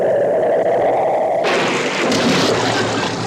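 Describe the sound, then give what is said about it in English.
Steady rain hisses, then a sudden loud crack of thunder bursts in and rolls on as a dense, rumbling roar for the remaining seconds. “Lisa, this rain is good for our wheat crop.”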